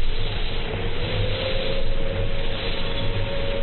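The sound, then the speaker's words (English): A bus rumbles past on a street, its heavy engine making a steady, low drone with a broad wash of road noise. It stays loud throughout, with no voices. “There goes another bus.”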